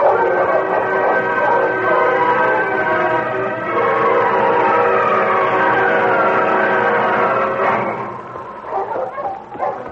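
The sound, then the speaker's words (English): A pack of husky sled dogs barks and yelps together in a loud, dense, continuous chorus, breaking into scattered, uneven barks near the end. “On King! On your husky!”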